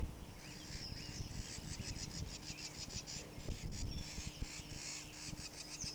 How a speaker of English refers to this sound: Solitary Vireo number 6. Scolding a bird, possibly near the nest.